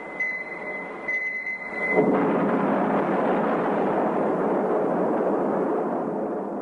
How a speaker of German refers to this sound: 1952 zünden die USA die erste Wasserstoffbombe. Wasserstoff verschmilzt bei der Explosion zu Helium blitzschnell und unkontrolliert.